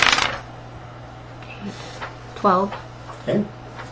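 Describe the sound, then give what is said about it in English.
A quick, bright clatter of a ten-sided die and a six-sided die tumbling across a tabletop opens the moment, then fades into quiet, with a couple of brief voiced sounds from people. “D10 plus a d6 plus 4.”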